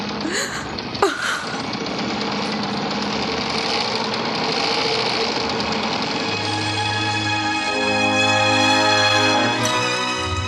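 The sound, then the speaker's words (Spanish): An old sewing machine runs steadily as a woman sits working at it, a continuous rattling mechanical whir, with a sharp knock near the start and a humming tone swelling beneath it toward the end. “Los ojos se le llenan de llanto, pero sigue sentada ante la vieja máquina de coser.”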